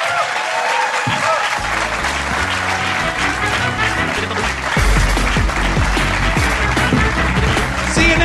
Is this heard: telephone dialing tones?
no